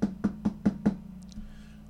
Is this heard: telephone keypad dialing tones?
no